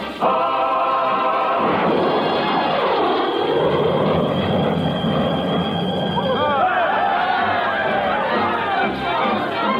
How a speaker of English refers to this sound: I am Lieutenant Dick Fay, who at this very moment is making the first non-stop supersonic jet plane flight from the United States to the Kingdom of Romanza.